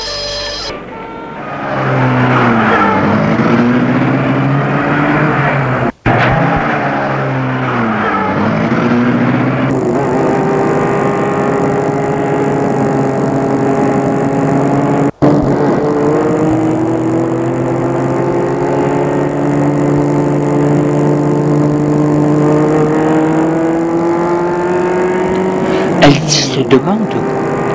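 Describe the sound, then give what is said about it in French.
A car engine starts up and pulls away, its loud hum rising and falling in pitch as it accelerates and shifts gears, droning steadily for the whole stretch. “Et il met la voiture en route.”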